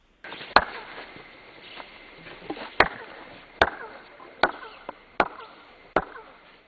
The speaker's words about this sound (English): Now, that's called chirping, as you walk up the stairs. Did the Mayans do that on purpose, do you think?